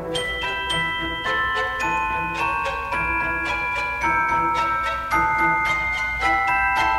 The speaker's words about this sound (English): Tchaikovsky himself knew that the Sugar Plum Fairy needed special music, but struggled to get the right sound. He stumbled upon a new instrument at the time. The celesta gave him the tinkling bell chimes that would influence the movement itself.